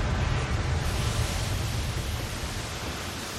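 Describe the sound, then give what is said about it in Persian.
A loud, steady rush of surging water roars continuously like crashing surf, dense, with a heavy low rumble and no voices; a water-creation magic spell called Cradle of the Sea Dragon. “جادوی خلق آب، گهواره ی اژدهای دریا.”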